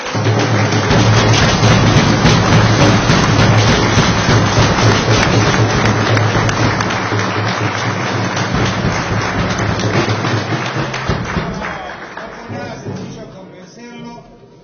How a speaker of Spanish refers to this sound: Nosotros, de nuestra parte, de nuestro sindicato, le queremos agradecer el esfuerzo que ha hecho el señor intendente, al cual le pido un fuerte aplauso porque no fue nada.